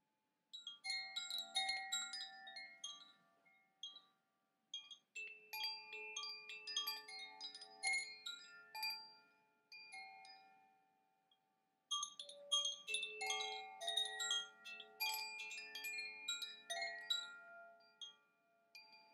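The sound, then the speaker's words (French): Carillon chimes ring out a bright, ringing melody in three phrases separated by brief pauses, with overlapping bell tones sustaining and decaying. The bells play alone, moderately loud, with no voices. “Essayez de vous souvenir d'un de vos songes, en vous laissant porter par le carillon.”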